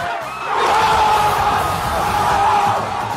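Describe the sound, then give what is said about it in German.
A large crowd of Mexican fans roars and cheers Mexico's first goal in its 1:0 win against Germany, a dense, sustained wall of shouting and whooping that swells after the first moment and stays loud throughout. “So ist die Stimmung beim ersten Goal schon ein bisschen extrem eskaliert.”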